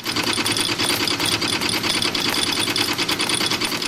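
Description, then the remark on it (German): A Swissmint coin press runs at high speed, striking Swiss franc coins one at a time between two hard steel dies at about 600 coins per minute. Its rapid, steady mechanical stamping blends into a loud, continuous clatter with a bright metallic edge. No voices are heard. “Dort werden sie einzeln mit Wucht zwischen 2 harte Stahlstempel eingeklemmt.”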